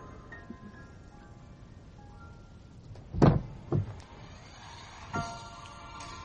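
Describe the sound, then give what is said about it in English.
A door shuts with a heavy thud followed quickly by a second, smaller thump, then a softer knock a moment later, all over a low, steady background hum with no talking. “I want to close the door.”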